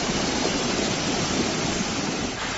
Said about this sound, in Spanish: Así suenan las medianías, las cumbres y muchos lugares de Canarias. Son los barrancos de todas las islas prácticamente corriendo, el agua bajando como nunca. El paso de la borrasca Tirís ha dejado estampas que no se veían en décadas.